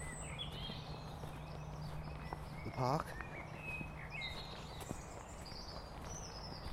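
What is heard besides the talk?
birdsong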